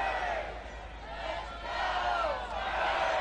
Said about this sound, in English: Sky starting to turn a little pinkish hue as the crowd gets into it here in the fifth.